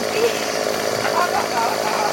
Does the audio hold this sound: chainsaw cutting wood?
yes